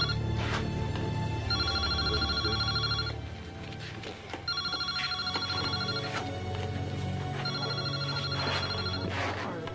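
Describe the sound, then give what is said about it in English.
A cell phone rings in repeated electronic bursts, three rings spaced a couple of seconds apart, fairly loud over a steady low background rumble. “Your cellular phone's been ringing off the hook.”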